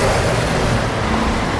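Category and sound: vehicle, street traffic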